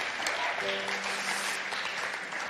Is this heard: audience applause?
yes